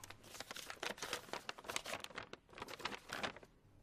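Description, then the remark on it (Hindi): Paper rustles and crinkles in quick, irregular bursts as it is handed over, a busy stretch of handling with sharp crackly textures and no voices over it. “कागज देखा नहीं क्या? दो, एक बार दो ना, फिर किसी से कहना नहीं, नहीं, नहीं।”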